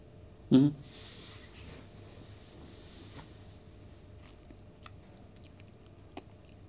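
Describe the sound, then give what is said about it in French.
A faint, steady whir of an amplifier's cooling fan, the background noise of the installation, hums continuously underneath, broken by one sharp low thump near the start and a few small scattered clicks. “On a un bruit de fond en installation, le ventilo de l'ampli.”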